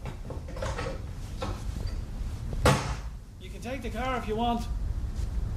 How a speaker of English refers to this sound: I think that was the first time I ever slammed the door on him. Might have been a bit harsh, maybe.